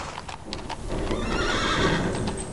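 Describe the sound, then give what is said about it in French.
A horse whinnies loudly in a long, wavering neigh, preceded by a few hoof clops on a hard surface, in the stables of an estate at Commarin. “Rejoignons notre hôte, Bertrand de Vauguet, dans la maison des chevaux.”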